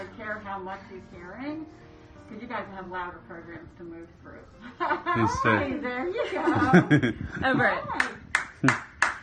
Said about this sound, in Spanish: Esas palmadas eran un ejercicio necesario que tenían que hacer para ver si el bebé reaccionaba. Aplaudían cerca del implante y si se asustaba, pues es que funcionaba.